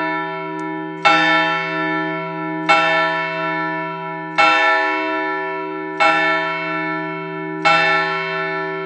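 A church bell tolls five times at a slow, even pace, each loud strike blooming into a rich, humming tone that lingers until the next. No voices are heard.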